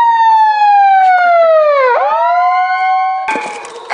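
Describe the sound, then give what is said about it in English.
Protesters' bullhorn switched to siren mode, aimed at neighbors, blares, its electronic wail sliding down in pitch and then sweeping back up, loud and continuous, with a burst of harsher noise near the end. “At this point, protesters switched the bullhorns over to siren mode as a punishment mode for the neighbors who'd used the red laser to menace protesters.”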